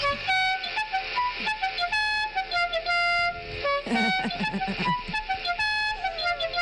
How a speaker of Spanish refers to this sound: ¿Cómo suena tu claxon?